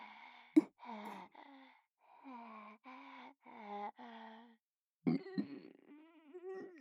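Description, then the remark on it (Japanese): A girl lets out a loud, drawn-out, croaky burp near the end, after a sharp gulping sound and several short, low, voiced groans. “あらあら、女の子なのにあんな下品なゲップしちゃって”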